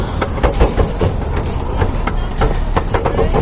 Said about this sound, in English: now at 27th and Guerrero. We found a Marcy REM recumbent exercise module. And I'm just going to ride it here for a second.